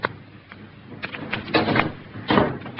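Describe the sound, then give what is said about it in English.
A door is pushed shut, with a couple of soft knocks and a scraping rustle building to a final muffled thud. No one speaks. “and close the door.”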